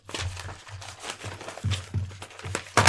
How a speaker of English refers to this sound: And you hear shuffling paper.